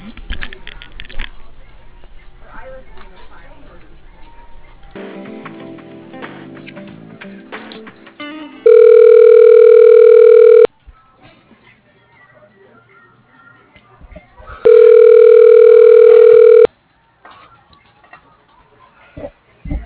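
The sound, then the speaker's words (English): Two long, loud electronic telephone tones, each lasting about two seconds with a pause between, sound over a line after scattered clicks and shuffling noises while a call is being transferred. “All right, let me transfer you. Can you hold, please?”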